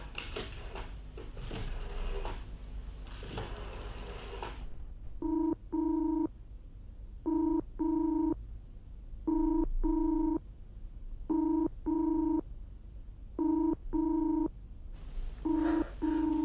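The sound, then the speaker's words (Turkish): A telephone ringback tone repeats in paired bursts on the line as a call to a boarding house goes unanswered, ringing again and again, after a few seconds of noisy rustling at the start. “Ver numarasını. Hayır. Kendin aç telefonu.”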